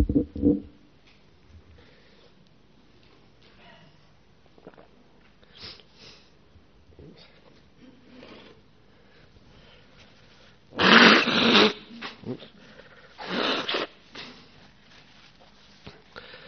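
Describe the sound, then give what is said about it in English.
A person blows their nose twice in place of a Buddhist conch at the start of a Dhamma talk: a loud, breathy honk followed after a short pause by a second shorter blast, with quiet background sounds and a few faint sniffs around them. “We haven't got a conch here, so I'm blowing my nose instead.”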